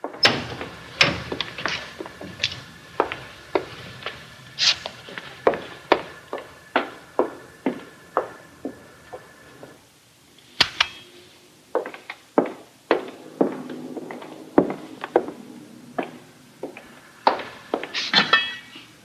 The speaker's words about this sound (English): Yeah, I actually pulled that audio clip because I feel like you get so much of her tension and confusion just in hearing the rhythm of her footsteps as she's walking in and out of rooms with this thing of potatoes, not knowing what to do.